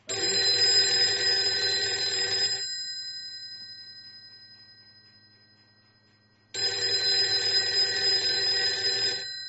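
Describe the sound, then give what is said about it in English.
A Western Electric Model 302 telephone, a mechanical design from the mid-1930s, rings loudly in two long bursts of rapid metallic clanging, separated by a few seconds of silence. “That's a Western Electric Model 302 telephone.”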